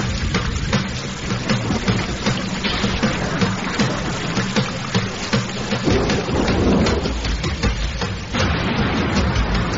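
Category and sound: nature, thunderstorm with rain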